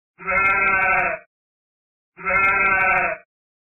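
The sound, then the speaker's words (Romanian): Two loud sheep bleats, each about a second long with a wavering, nasal tone, separated by a brief pause of silence. “Într-adevăr, mă gândisem la o oaie.”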